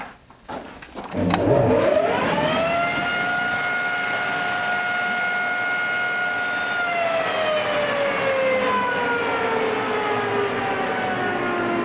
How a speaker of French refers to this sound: Là, maintenant, nous sommes dans une boîte. Une boîte, c'est la galerie principale. Je vais faire tourner le ventilateur.